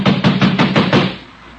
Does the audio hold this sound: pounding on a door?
yes